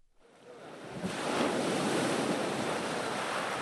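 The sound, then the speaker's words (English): Waves of the English Channel wash up the shingle beach at Hastings on England's south coast, where the fishing fleet launches, swelling from near-quiet into a steady, full roar of surf with a breezy edge, fairly loud, with no voices. “The Hastings fishing fleet launches from the beach, not a harbor.”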